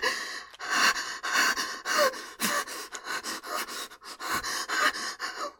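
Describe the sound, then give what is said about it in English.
Heavy, rapid panting from a person, a quick steady rhythm of breathy in-and-out gasps, about two per second, loud and airy with no talking. “Why am I breathing like that?”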